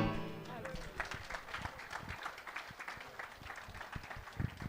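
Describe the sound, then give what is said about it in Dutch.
A crowd applauds a sung performance with dense, steady clapping that fills the whole stretch, while a faint tonal trace of music fades out at the very start. “Dank jullie wel voor jullie gul applaus.”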